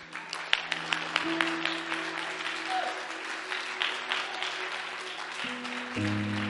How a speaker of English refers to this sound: Clap.